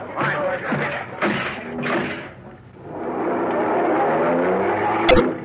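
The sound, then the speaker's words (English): A car engine revs in a few short bursts, then roars steadily and climbs in pitch as the car accelerates away in pursuit of a fleeing driver, loud, ending with a sharp click. “Come on, Lacey, the car.”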